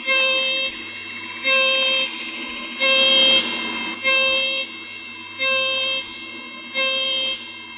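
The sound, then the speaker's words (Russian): Cicadas in the rainforest call to each other in loud, rhythmic bursts, about six buzzing swells repeating steadily, each a bright, shrill, high-pitched drone, with a quieter continuous hum between them. “Вот так переговариваются цикады.”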